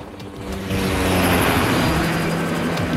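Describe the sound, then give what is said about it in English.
A steady, loud mechanical roar of police surveillance helicopters passing overhead a cordoned-off street area, with a low throbbing hum beneath broad rushing noise that swells after a moment and stays strong throughout. “The whole area has been cordoned off and is crawling with cops and surveillance choppers.”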